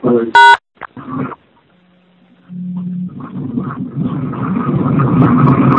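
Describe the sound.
A train toilet flushes, heard over a phone call, with a broad, rushing whoosh that swells steadily louder and keeps going, preceded by a short electronic beep, a few words of talk and a low steady hum.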